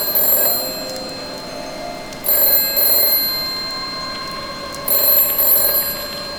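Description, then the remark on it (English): A telephone bell rings in three bright, metallic bursts separated by short pauses, loud over a low steady hum, with no voices. “Don't answer that phone.”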